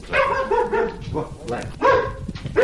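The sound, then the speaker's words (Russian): A dog barks repeatedly at visitors, several loud barks in uneven bursts with short pauses between them, each bark sharp and tonal. “Эта собака встречает всегда всех посетителей вот этим приветливым голосом.”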